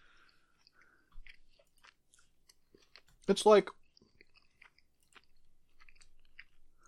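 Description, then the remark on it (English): Soft wet chewing of extra-thick sour gummy worm candy, slightly wet on the inside, with scattered sticky clicks and smacks throughout and a brief spoken phrase partway through. “Are they, do they have a bit of a chew to them?”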